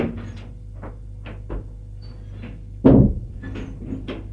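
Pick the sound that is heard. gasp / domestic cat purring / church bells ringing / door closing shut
door closing shut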